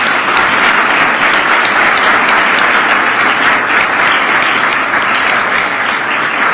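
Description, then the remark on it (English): A crowd applauds loudly and steadily in appreciation of standing military veterans of the Army, Navy and Marine Corps, a dense wash of many hands clapping at once that holds an even level from start to finish with no voices rising above it. “And I think we ought to recognize them at this time and give them a round of applause for appreciation.”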